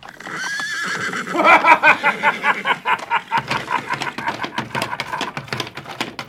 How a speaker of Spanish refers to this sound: No pocos hombres sintieron que su cuerpo se estremecía. Y les corría un sudor frío al escuchar el relincho del caballo blanco